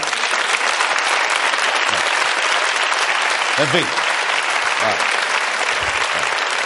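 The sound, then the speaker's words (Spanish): Steady, dense applause fills the whole stretch, a crowd of girls clapping continuously with brief voices speaking over it. “Las chicas aplauden ahí como...”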